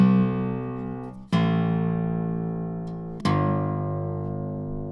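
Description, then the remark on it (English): Guitar notes played by hammering on, by the sound hole near the bridge of a very lightly strung Gibson guitar: three sustained, ringing tones with sharp onsets, each slowly fading and rich in overtones. The notes sound at moderate loudness with no voices. “That's by the sound hole near the bridge.”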